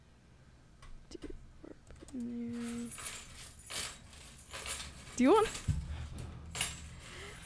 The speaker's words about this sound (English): Stop. I'm playing with my keys.